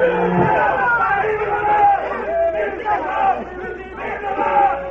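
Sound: troops cheering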